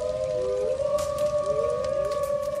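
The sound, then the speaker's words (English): Several wolves howl together in long, overlapping wails that rise and slide in pitch, a steady chorus carrying from somewhere far off with no one talking. “heads, scratching their chins, and staring off into the middle distance with that polite attentiveness, but slight boredom, that well-acquainted colleagues will take on during a long meeting, talking about commerce as the wolves howl in the distance.”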